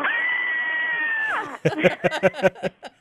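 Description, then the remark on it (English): Two music festival co-directors do their 'co-director scream' together: one long, steady, high-pitched wail that slides downward at the end, followed by a run of choppy, breathy vocal bursts like laughter. “Well, gee, honey, should we do the co-director scream? Okay, here we go.”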